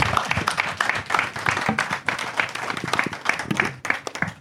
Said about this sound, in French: Voilà, et on va passer à la... On peut les applaudir, non, quand même?